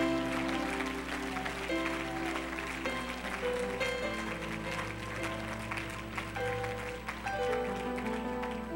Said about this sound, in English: Let's give God a great big hand clap of praise.